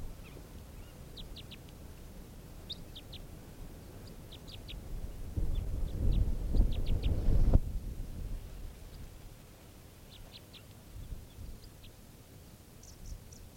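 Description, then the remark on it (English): Odd, very low-pitched bird calls of a type 3 variant come in quick clusters of two to four short, clipped notes, repeating throughout over a steady low rumble that swells louder midway, then settles. “Really weird calls here.”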